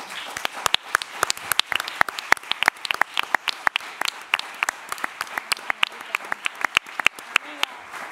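An audience at a press conference for a series, with Raúl Arévalo among the guests, bursts into steady applause for everyone at the table, many hands clapping in a dense, crackling patter with sharp individual claps standing out, sustained at an even level for several seconds.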